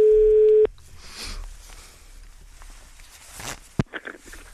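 A single loud, steady telephone ringing tone sounds for about half a second while placing a phone call and cuts off, followed by quiet rustling, handling noise and a sharp click.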